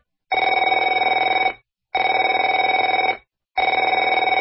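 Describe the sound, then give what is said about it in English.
A telephone rings in three long, steady bursts of about a second and a half each, separated by short silences, with a bright, buzzy bell tone and no voices. “Afraid to answer it?”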